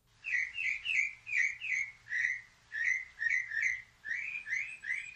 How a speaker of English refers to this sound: So let's – we're going to play some different sounds from this machine right now. Okay, the first one is what they call birdsong.